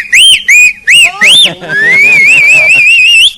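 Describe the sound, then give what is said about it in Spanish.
Loud, piercing human whistling to call someone: four quick rising-and-falling whistle blasts, then one long whistle that climbs and wavers for nearly two seconds, with a fainter murmur underneath. “Aquí nadie rechifla de esa manera”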